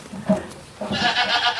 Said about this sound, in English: Oh, baby goats are adorable. These are this is pretty fucking adorable. And they're in pajamas and jumping around. And they like, jump back and forth.